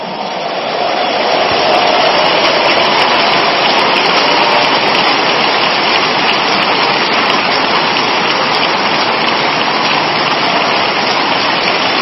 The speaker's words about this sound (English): Stand to your feet. Give the Lord another huge clap of praise.